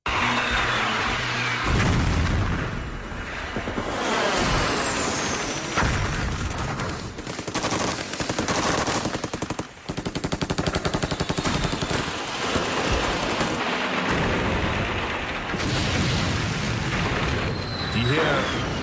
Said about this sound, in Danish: Skyderier og eksplosioner, man kan høre her i baggrunden, de stammer fra de berømte billeder, hvor den chilenske hær angriber præsidentpaladset i Santiago i Chile.